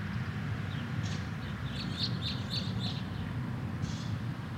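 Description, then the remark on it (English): Birds chirp outdoors in a few quick bursts of short, high tweets, fairly faint, over a steady low rumble of passing cars. “Do you think you could fall asleep to this? Or is it too distracting? With the cars. With the birds.”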